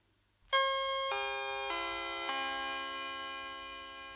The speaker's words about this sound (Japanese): これは J アラートのテストです。これは J アラートのテストです。これは J アラートのテストです。3回繰り返し。こちらは防災清瀬市です。下りチャイム音。